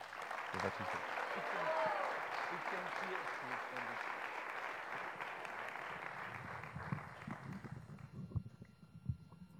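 A crowd applauds warmly, a dense, steady wash of clapping that holds for several seconds before thinning out into scattered claps at the end.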